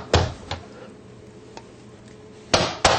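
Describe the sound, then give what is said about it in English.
A two-part apple corer snaps together in sharp, bright clacks: a pair at the start, a faint tick midway, then two loud snaps close together at the end. “This is a apple core. It's a two-part thing. It goes bang like such.”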